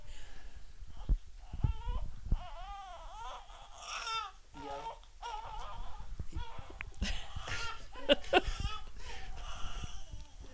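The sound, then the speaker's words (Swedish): A baby cries in wavering, rising and falling wails, with short breaths and whimpers between bursts, moderately loud throughout, with some background rustle. “Det här är julskriket. Bebisen som behöver vår hjälp.”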